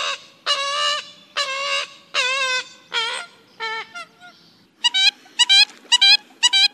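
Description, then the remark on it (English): A series of loud, nasal honking calls from an American coot, arriving in irregular bursts followed by a quicker run of short, clipped toots near the end, clear with no talking. “That's no duck at all. It's an American coot.”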